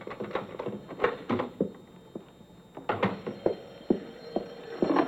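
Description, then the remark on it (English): Metallic clicks and rattles of a key working a front door lock, as someone just home from work unlocks the door at 8:46 p.m. on Saturday, April 18th: a series of sharp irregular taps and scrapes over a faint steady hum, with no voices. “I'd just gotten home from work, and I was unlocking my front door.”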